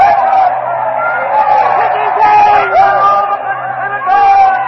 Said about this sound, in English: Mark Antony has stepped up to the body of Caesar. He flips the covering off the body, and the mutilated body of Caesar now lies exposed. The crowd is in a frenzy.